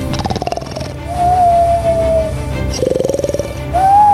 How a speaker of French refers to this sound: Mais ça alors, d'où vient ce bruit? Un ronflement? C'est mon voisin peut-être. Mais non, ce n'est pas possible. Ça vient de la cabine du pilote. Oh non, le copilote aussi, il s'est endormi.